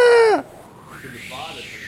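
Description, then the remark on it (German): A voice imitates a seagull with one loud, shrill, strongly pitched cry that bends downward and cuts off sharply, followed by a faint, breathy murmur. “Aber ich denke, meine Möwe ist sehr gut.”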